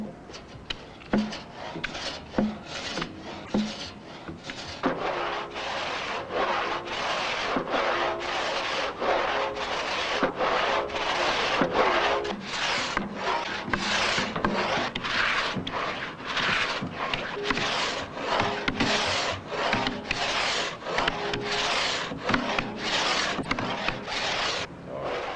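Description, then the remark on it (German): A hand saw rasps steadily through thick oak timber, its back-and-forth strokes coming in a brisk, even rhythm for the whole stretch, fairly loud with no voices. “Wenn die Bauherren das benötigte Eichenholz aus dem eigenen Wald stellten, wie es früher häufig vorkam, wurden die Schneidearbeiten für Lohn ausgeführt.”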